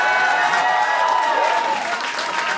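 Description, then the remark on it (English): A live audience bursts into loud, sustained applause after someone in the crowd yells out, dense clapping for a few seconds with scattered cheers and crowd voices mixed in. “and then the crowd erupted in some sort of applause.”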